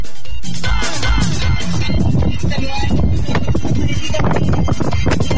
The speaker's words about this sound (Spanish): Harto viento y balazo. Iba ahí agarrando vuelo, amigo. Harto viento también se escuchaba por esos lados.